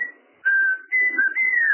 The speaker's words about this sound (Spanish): Aquí mi señor está silbando, a ver